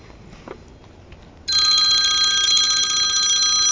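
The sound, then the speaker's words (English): A phone rings abruptly after a quiet moment, a loud, steady electronic trill of bright stacked tones that continues without pause to the end, with no talking over it. “Y'all hear my phone?”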